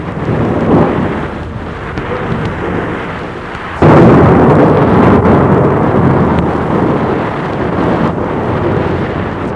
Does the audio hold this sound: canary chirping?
no